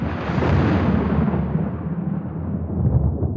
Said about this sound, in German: Ah, das ist das Donnerwetter der Geister. Immer wenn man dieses Geräusch hört, bedeutet dies, dass sich die Geister ankündigen, um mit der Taschenlampe der Geister das jeweilige Thema zu beleuchten.